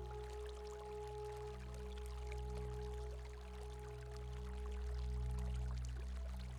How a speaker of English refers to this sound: A warm, soothing feeling running through your tail, legs, and coat while you listen to the relaxing sound of the waterfall.